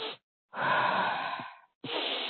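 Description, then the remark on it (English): A person breathes quickly in and out with no talking: a brief breath, then a longer airy one lasting about a second, and another breath starting right after, in a fairly quick in-and-out pattern. “So it sounds like breathing quickly.”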